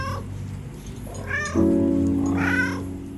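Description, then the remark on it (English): A cat named Gino gives two drawn-out, whiny meows, the second louder and more strained, over a low, steady purring rumble while rubbing against someone's legs, with no talking. “Gino mews and purrs, rubbing against what?”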